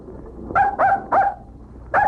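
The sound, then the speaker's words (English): A puppy barks four times in quick succession, sharp, with a short pause before the last bark, over a low background rumble. “Get that dog out of here.”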